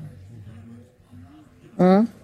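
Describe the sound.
After some low, muffled murmuring, a voice lets out one short, loud, throaty cough-like sound, a brief vocal imitation of someone coughing a little.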